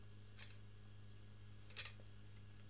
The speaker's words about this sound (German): Ich glaube, ich habe versucht, Watte in eine Kassettenhülle zu packen.